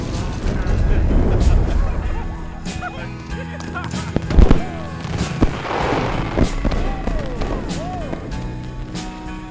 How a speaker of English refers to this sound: Goes up in a fireball. Mascot Bear on fire falls over an oil drum. Killer moves in slow motion, fiery explosions behind him.